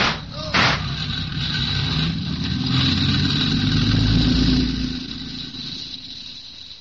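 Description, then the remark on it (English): A car engine rumbles steadily in an alley, swelling slightly as if revving before easing back, with a brief sharp knock near the start. “There's a car in the alley there.”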